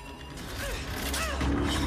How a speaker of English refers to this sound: Maggie's intervention has caused the machine to go haywire. Chunks of metal shear off as its cogs begin to jam.